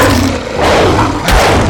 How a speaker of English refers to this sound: Werewolf.